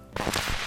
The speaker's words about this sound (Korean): 그날 서울에는 엄청난 비가 쏟아졌습니다.